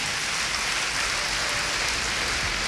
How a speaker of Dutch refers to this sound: Mag ik een applaus daarvoor?